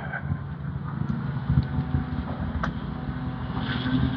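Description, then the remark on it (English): A steady, loud wash of street machinery: truck engines rumbling low alongside the drone of grinders, mowers and leaf blowers, running continuously with no pauses and no voices. “I'm going to go out into the street because I've got trucks and grinders and mowers and leaf blowers, and the sidewalk is blocked.”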